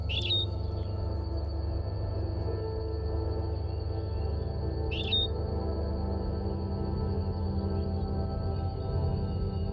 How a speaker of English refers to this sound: And because of the isolation of the Galapagos Islands, this finch that's singing now has a direct genetic connection to the finches that Darwin heard singing when he was here on the Galapagos Islands in the 1830s.